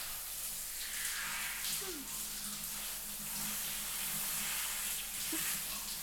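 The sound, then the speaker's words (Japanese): Water pours steadily to rinse soap foam off someone's back in a bath, a constant bright hiss with no breaks, running evenly for several seconds without anyone speaking. “じゃあ泡を流していきますよ。”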